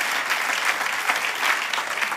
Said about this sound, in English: If we're going to clap, let's clap. Let's go. Let's do it.